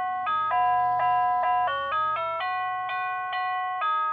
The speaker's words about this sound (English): I like your doorbell. Well, the north door plays National Anthem, and the south door plays ….